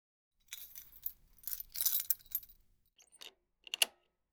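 Keys jangle and clink in a cluster of bright metallic rattles, followed by a few sharper clicks and taps like a key working a lock, unlocking the door of a café, with no talking.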